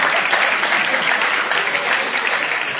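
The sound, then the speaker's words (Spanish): Steady, dense applause from an audience, a continuous wash of many hands clapping at fairly even loudness throughout, with no voices standing out. “Ya la gente le aplaude para venir.”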